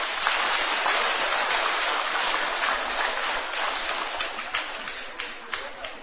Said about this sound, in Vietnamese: Nếu cháu nào thấy rằng là mình được nâng đỡ bởi sự chăm sóc của các thầy, các sư cô, bởi các tình nguyện viên, thì dành một tràng vỗ tay thật to.